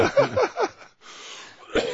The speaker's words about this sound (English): Man, you're dying, aren't you? Well, the cough syrup, first of all, made me dingy and loopy, and second of all, kept me coughing.